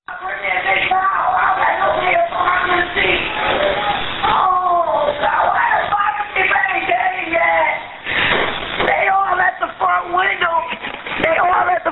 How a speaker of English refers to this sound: My kids behind in the back of the house. Okay, all the kids are in the back of the house yelling out the window.